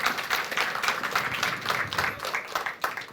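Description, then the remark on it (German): A steady wash of audience applause, many hands clapping in a dense, continuous patter at moderate loudness with no one speaking. “Zwischen Applaus.”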